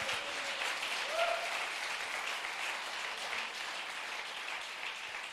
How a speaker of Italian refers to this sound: Forte l'applauso per la parola di Dio. Alleluia.